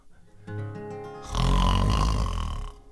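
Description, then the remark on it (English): A voice imitates a princess's loud snore: a rumbling, nasal inhale builds for about a second, then bursts into a louder, harsher drawn-out snort, alone with no other talk. “He could hear her loud, almighty snore.”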